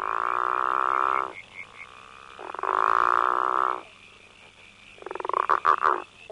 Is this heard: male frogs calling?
yes